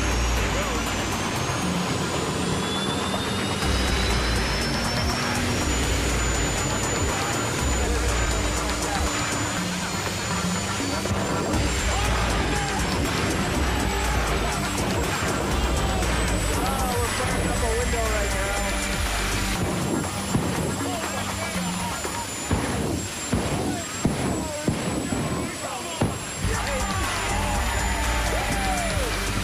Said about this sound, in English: Jet Quad is a 2,000 horsepower, 2,000 pound thrust ATV. We basically put a jet engine on an ATV. It's capable of 200 miles an hour.